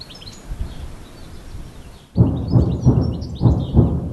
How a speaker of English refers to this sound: After a brief lull, it sounds like the bombardments are starting to pick up again, interrupting the spring bird song here.